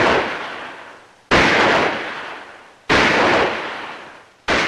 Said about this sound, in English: Now, one after the other, the contestants continue taking turns shooting.